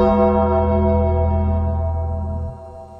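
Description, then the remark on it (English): A single deep gong, struck to separate interviews, rings out loud, its rich layered tone sustaining steadily before the low hum cuts off near the end, leaving a fading shimmer. “Rob, then David, and you could tell who's talking because there's gong separating the interviews.”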